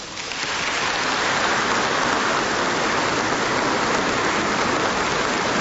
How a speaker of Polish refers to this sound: Bo musimy jeszcze sobie porozmawiać, także szkoda czasu na te oklaski. Kochani, bo później ile oklasków, tyle później uderzeń różnych, nie?